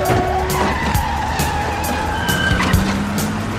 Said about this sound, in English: Just as Neil hands some cash over to the rat attorney, the taxi squeals off into traffic, and Neil goes chasing after it.